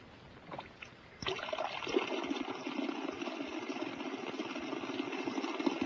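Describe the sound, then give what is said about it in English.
After about a second of faint background noise, a steady spattering hiss starts abruptly and continues evenly to the end. Grounded jets of ordinary water in a high-voltage generator demonstration break into falling drops a short distance from the nozzle. “At a short distance from the nozzle, the jets break into drops, which we see here in slow motion.”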